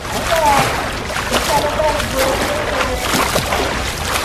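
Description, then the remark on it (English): A swimmer splashes steadily through pool water during lifeguard certification at the Samuel Recreation Center pool in Port Richmond, Philadelphia, a continuous wash of sloshing and splatter, with faint indistinct voices and brief high calls echoing in the background. “glide through the water”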